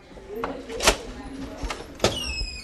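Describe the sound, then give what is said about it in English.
Swinging metal doors in a hospital emergency room swing open into the main emergency department with two sharp clanks about a second apart, set against a busy murmur with indistinct voices in the background. “The reason for the backup in the waiting room can be found through the swinging metal doors around the corner.”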